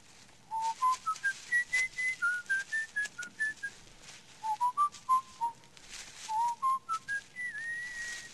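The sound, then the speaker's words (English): Someone whistles a song tune in clear, separate notes that rise and fall in short phrases, steady, with a faint background hiss and no talking. “What's that you're whistling? I don't know, some song I picked up.”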